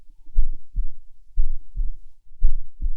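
A slow, steady, calm human heartbeat, muffled, heard while being held in a hug, with soft low lub-dub thumps in pairs about once a second, and nothing else heard.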